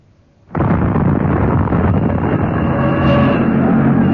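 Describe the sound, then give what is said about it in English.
After a moment of near silence, a gas main explosion erupts with a sudden, loud boom and then keeps going as a heavy, sustained roar and rumble for several seconds, with no voices. “Probably it was a gas main explosion down below.”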